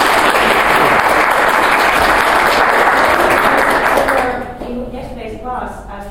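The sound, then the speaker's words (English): An audience applauds loudly with dense, steady clapping for about four seconds to welcome a gentleman being introduced, then the applause fades out and gives way to a voice starting to speak. “So I consider we start with a warm applause for this gentleman.”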